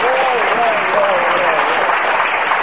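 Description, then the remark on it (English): A crowd claps steadily and loudly for a few seconds after the town of Teaneck, New Jersey is named, a dense, continuous wash of applause with a faint voice rising briefly above it near the start. “I can applaud for that one.”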